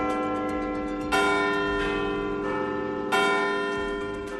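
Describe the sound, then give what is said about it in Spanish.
The bells of Big Ben in London chime, with deep resonant strikes at a slow, stately pace, each ringing tone swelling and overlapping the lingering hum of the last, heard for the last time before falling silent until 2021. No voices are heard. “Y en Londres, hoy se han escuchado por última vez las campanas del Big Ben.”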